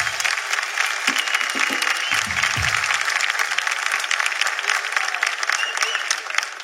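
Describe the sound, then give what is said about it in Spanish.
Loud, sustained applause from a crowd for a feature film about Madison Square Garden showing in cinemas from 20 November, a dense steady wash of many hands clapping at once with a few faint voices mixed in, holding level for several seconds. “Vayan a verlo, señores, un fuerte aplauso por disponible eso.”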